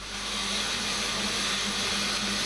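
A power saw runs steadily through wood at a lumberyard operating behind a closed gate despite a ban, a continuous harsh roaring whine with a low droning hum underneath, loud and unbroken for the whole stretch, with no voices.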